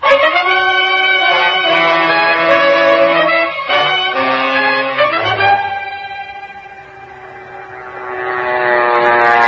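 A loud, steady airplane engine drones with layered harmonic tones, its pitch shifting and dipping midway before swelling again. No one speaks over it.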